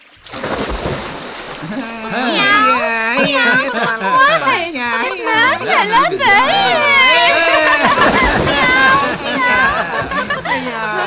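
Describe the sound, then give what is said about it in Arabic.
A cat meows loudly and repeatedly, with long wailing, pitch-bending cries that overlap almost continuously, over a background of splashing and noisy clatter, as a cat jumps into water from a high diving spot in a diving race. “قفزة جميلة من القطة.”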